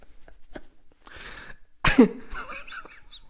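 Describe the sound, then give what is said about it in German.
A single sharp cough bursts out loudly, preceded by a softer rasping breath and followed by a brief wheezy trailing sound, with no talking around it. “Husten.”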